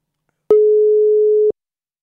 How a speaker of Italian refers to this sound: Vediamo, sta squillando, tutto in diretta.